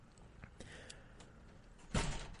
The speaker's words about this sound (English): Ooh, the door just blew shut. That was spooky. Could you hear that through the microphone? There's a ghost in here. Or it's windy outside.